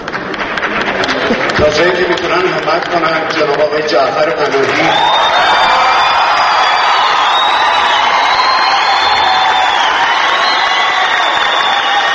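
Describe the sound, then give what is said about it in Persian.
At a film festival closing ceremony, a crowd bursts into sustained, loud applause with cheering after actor Mohsen Tanabandeh, receiving a best supporting actor diploma, wishes Jafar Panahi's return to Iranian cinema; dense clapping gives way to a roaring wash of voices and whistles that continues steadily. “او آرزو کرد جعفر پناهی به دامان سینمای ایران بازگردد، آرزویی که با تشویق شدید حاضران روبرو شد.”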